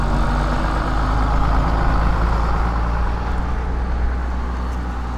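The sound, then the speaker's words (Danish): A heavy diesel engine idles steadily, a deep constant rumble with a low throb and no change in pace, from bus 213 that has just arrived from Tørring Amts Gymnasium. “Ja, jeg kom lige med bussen.”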